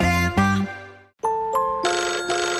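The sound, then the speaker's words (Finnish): A phone ringtone of an incoming call plays alone: a bright synthesized melody of tonal chimes, first lower notes, then a brief pause and higher, brighter repeated tones, loud with no talking. “Ja nyt soittaa”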